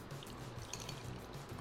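A soft trickle of yeast and water mixture poured steadily into a bowl of flour, with faint dribbling and wet splashes over about two seconds and no voices.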